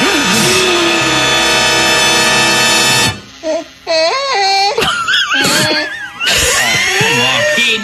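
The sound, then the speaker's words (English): A loud, sustained scream lasts a few seconds, then breaks into wavering, wailing shrieks that rise and fall in pitch with brief gaps, ending in another harsh burst of screaming. “Scream!”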